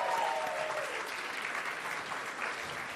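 Steady audience applause, a dense wash of many hands clapping at an even level for the full three seconds, with no voices standing out above it.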